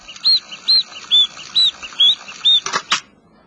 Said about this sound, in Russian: маленькая, блестящая, механическая птичка бьет металлическими крылышками, свистит.